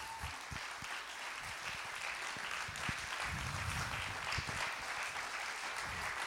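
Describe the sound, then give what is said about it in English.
An audience at Calvary Gospel Church applauds the two leaders of its children's ministry, a dense wash of many hands clapping at a fairly loud, even level for several seconds, with no voices standing out. “We're going to clap again at the end, but they did not know.”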